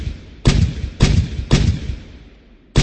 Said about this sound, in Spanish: En agosto de 1905, empezaron en el nuevo polígono militar los ejercicios de artillería y las fincas de Mlada se convirtieron en blancos de los cañonazos.